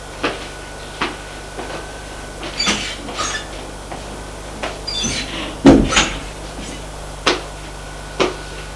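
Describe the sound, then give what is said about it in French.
A bedroom door upstairs being opened: scattered clicks and knocks from the handle and frame, with a brief high creak near the middle and a couple more sharp taps after. No one speaks. “Et une fois à l'étage, elle va ouvrir la porte de la chambre.”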